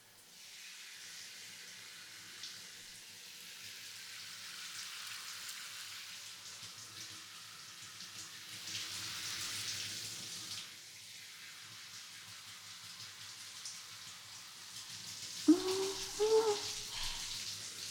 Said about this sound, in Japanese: さっさとシャワーで精液流しちゃいましょう。